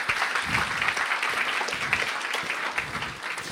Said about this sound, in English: can we clap for Jacob Ng and give him a warm welcome?